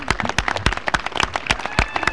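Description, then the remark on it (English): A crowd applauds after the singing of the national anthem, a steady patter of many hands clapping at once with sharper individual claps standing out, moderately loud and continuous throughout the short stretch. “Let's give a round of applause to Cheryl Wood for the singing of the national anthem.”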